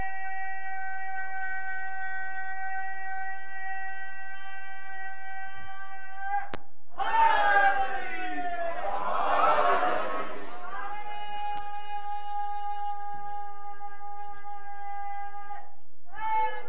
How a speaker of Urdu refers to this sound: یا علی, یہ نعرے بہت ضروری ہیں.